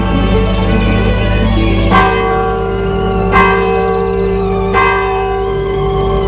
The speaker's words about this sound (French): Fait un jour gris et humide. Les cloches de l'église sonnent et donnent un peu d'été à ce décor lugubre.